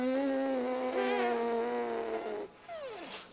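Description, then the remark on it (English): A steady lip buzz from a woman trying a lip-buzzing exercise holds one buzzy pitch for about two seconds with slight wobbles, breaks off, then returns as a short buzz sliding downward in pitch. “You're not buzzing your lips. You're just blowing.”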